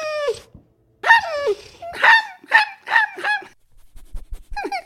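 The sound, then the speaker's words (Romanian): A voice playing a wolf imitates a sick, ragged puppy whimpering, with a run of high, wavering whines and yelps in quick succession, fairly loud, with brief pauses between. “Mă prefac că sunt un cățeluș bolnav. Zdrențăros și bolnav.”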